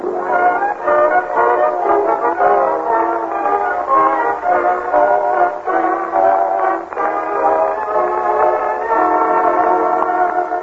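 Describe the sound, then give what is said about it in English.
Train sounds at the Summerfield Railroad Station in The Great Gildersleeve: a loud, continuous blare of horn-like tones and rumbling rail noise fills the whole stretch, steady, with no one talking. “He and Marjorie and Leroy wait in the Summerfield Railroad Station for the arrival of that well-known authoress, lecturer, and second cousin, Octavia Gildersleeve.”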